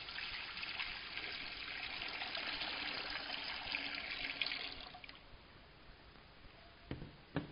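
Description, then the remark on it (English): Water is poured from a pitcher into a baptismal font, a steady splashing stream lasting several seconds before it stops, followed by quiet and a couple of faint drips. No one speaks. “Many times we take pitchers of water over at the baptismal font and we pour them into the baptismal font.”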